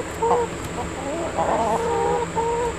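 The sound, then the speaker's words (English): Several chickens cluck and murmur in short, wavering calls in a garden chicken coop, with a steady background hum and a faint outdoor bustle underneath. “And there's a chicken coop.”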